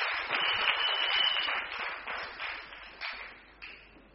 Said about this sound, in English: Clap, clap, clap, clap.